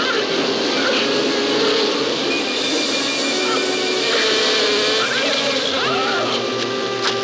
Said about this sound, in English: Fellow reckons he developed a strain of killer bees. Fantastic. But these people know this terrifying buzzing sound is the last they will ever hear.